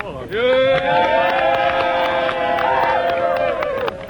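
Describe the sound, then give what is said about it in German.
A few people clap in a studio in Berlin while a loud, sustained vocal cheer holds one pitch for about three and a half seconds, with scattered sharp claps running underneath. “Brandender Beifall im Studio in Berlin.”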